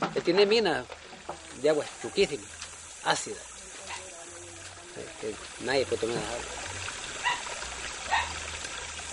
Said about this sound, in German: So rinnt das Wasser über Felsen, die es längst ebenfalls gelb getüncht hat, an kahlen Büschen vorbei und durch eine kleine Ansiedlung mit dem Namen Caserío del Puente, den Weiler an der Brücke.